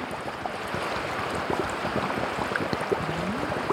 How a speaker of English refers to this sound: And then we go back in, we just put it under, let it do its thing and fill it up. You can hear the bubbles.